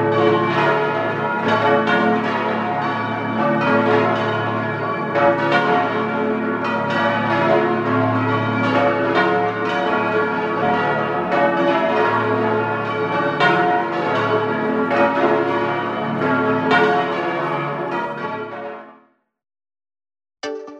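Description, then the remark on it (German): A heavy peal of collegiate church bells, cast in an Italian bell foundry, rings continuously, several deep bells overlapping in a dense, resonant wash, then cutting off abruptly near the end. “Das schwere Geläute der Stiftskirche wurde in einer italienischen Glockengießerei gegossen.”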